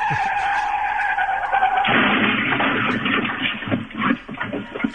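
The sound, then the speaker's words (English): An electric Bird rental scooter skids loudly, a sharp scraping screech breaking into a harsh grinding slide that rattles and scuffs for a few seconds, with no talking. “Now, they're not going to charge on our credit card for that bird scooter, are they?”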